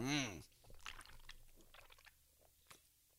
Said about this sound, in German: Ja gut, dann trinke ich hier. Ich hab gerade hier eine Dose Bier mitgehen lassen. Prost, Kinder.